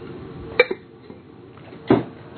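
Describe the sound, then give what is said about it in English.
A ceramic cup of medicinal tea clinks twice against a hard surface as someone takes a drink, a sharp knock followed by a second louder one over a second later, with faint handling noise between and no talking. “Let me get a drink of this here, even though it's not water. It's my medicinal tea.”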